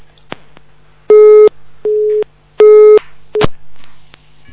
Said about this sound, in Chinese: 哎，电话太忙了。